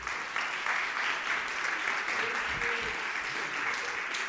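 Steady audience applause for two presenters, a dense wash of many hands clapping at an even, sustained loudness for several seconds, with a faint murmur of voices underneath.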